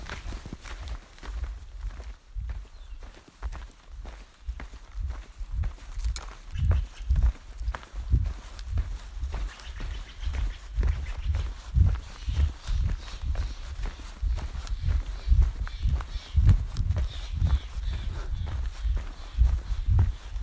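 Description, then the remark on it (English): Steady footsteps crunch along a hiking trail in the morning, heading toward the Oregon border and Ashland. A regular walking rhythm of soft thuds with gritty scuffs continues for the whole stretch with no talking. “So come along, join us, and yeah, let's go walk the trail.”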